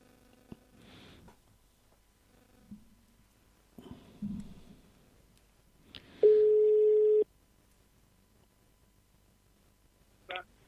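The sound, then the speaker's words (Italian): A radio host places a phone call to a guest: scattered clicks and handling noises, then one steady electronic ring tone lasting about a second, followed by a final short click. “di chiamarla al telefono.”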